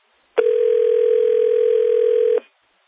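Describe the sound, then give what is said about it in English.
A steady, continuous telephone dial tone after a cell phone call dropped, humming loudly for about two seconds, starting and stopping abruptly, with no voices present. “His phone got broken in on. That was a cell phone.”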